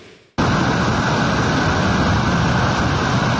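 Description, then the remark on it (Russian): After a brief quieter moment, a loud, continuous roar of floodwater pours over the top of an embankment where cars turn around, during flooding in Russia's Orenburg region, a dense, steady rushing wash that holds unbroken to the end with no voices. “Вот она пошла через верх, где машина разворачивается.”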